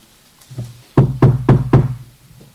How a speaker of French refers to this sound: Seigneur frappe à notre porte. Et il nous dit, disons, j'ai quelque chose à te dire.